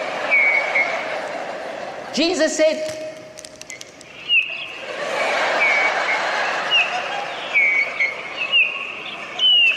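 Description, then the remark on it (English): Birds sing outdoors in repeated short, bright chirps scattered across the scene over steady background noise, while a voice briefly speaks partway through. “Listen to the birds.”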